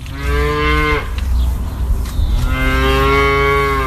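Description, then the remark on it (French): Two long, loud cow moos, each a sustained low bellow, separated by a short pause filled with outdoor background noise, from a herd of 300 cows grazing on green grass in sunny pastures at Fen Farm, a dairy farm in Norfolk, eastern England. “Ses 300 vaches ont encore bien de l'herbe verte à brouter, même si beaucoup se retrouvent au bord d'un grand point d'eau pour se désaltérer.”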